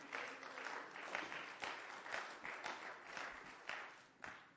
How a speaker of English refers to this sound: Can you give the Lord a hand clap for that? Hallelujah.